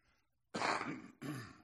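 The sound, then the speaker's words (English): Two loud, harsh coughs into an arm in quick succession, the first longer and the second following almost immediately, after a brief quiet lead-in with no talking. “I just coughed into my arm.”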